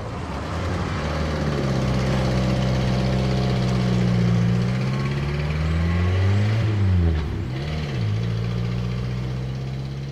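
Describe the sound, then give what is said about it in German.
The engine of a black 1951 Morris Minor, a small English car, runs steadily with a low, even hum, its pitch rising and dipping briefly as it revs before settling back to a steady idle. No one speaks. “steigt dann ein in einen Morris Minor, einen schwarzen englischen Kleinwagen, Baujahr 1951.”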